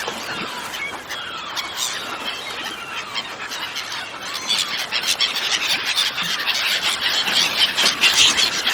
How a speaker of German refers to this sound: Haut ab! Ihr bekommt nichts von unseren Krabben! Ein ganzer Schwarm Möwen hat das auf unseren Fang abgesehen. Ich muss sie irgendwie vertreiben.